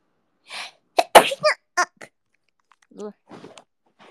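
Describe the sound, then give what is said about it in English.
A single loud sneeze bursts out after a short sharp breath, followed by a few brief murmured vocal sounds and quiet rustles before it falls silent. “I sneezed.”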